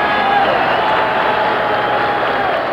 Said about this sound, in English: Tremendous applause here at the Lincoln Memorial for Walter Reuther, President of the United Automobile Workers.